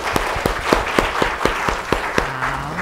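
An audience claps in welcome, with about nine crisp claps landing in a steady, even rhythm. A low, sustained voice-like tone comes in near the end.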